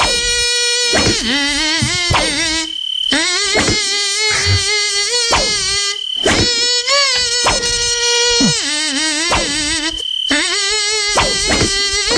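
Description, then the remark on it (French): A loud, buzzy, mosquito-like whine plays a melody, its pitch stepping up and down through a run of sustained and short notes, with brief gaps between phrases and no talking. “Ah, c'est un moustique qui roule en caravane.”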